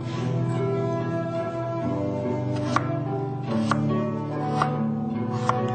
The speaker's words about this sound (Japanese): 今日の里芋はちょっと大ぶりなので半月切りにします。